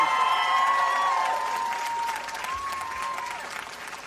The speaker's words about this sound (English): I was just telling them to give you a round of applause because, you know, you're pretty close.